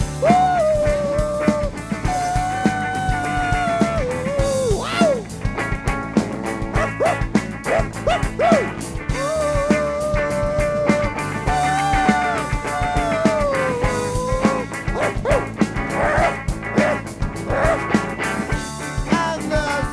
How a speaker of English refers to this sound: A dog called Karma.